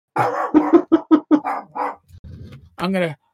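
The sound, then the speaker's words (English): A pet dog named Donker barks excitedly in a rapid burst of short, loud, high-pitched yaps, then lets out a low growl and one longer, whining bark at the end. “There's my doggy going crazy.”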